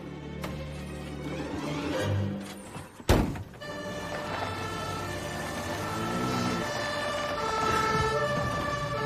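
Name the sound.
ambulance siren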